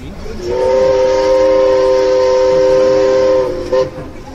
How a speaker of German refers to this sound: Und dann winken wir immer alle zusammen und dann fängt der Dampfer an zu hupen.